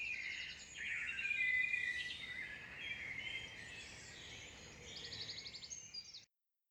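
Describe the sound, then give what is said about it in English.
A dawn chorus of many birds singing and chirping at once, with overlapping trills and rapid repeated notes, continuous and fairly lively, with no voices. “Sit back, relax, and enjoy the early morning sound of birdsong.”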